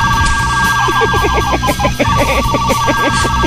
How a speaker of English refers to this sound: Is that the fart phone? Yes. Was that the fart phone? That was the fart phone. I want to hear that again. It's the fart phone.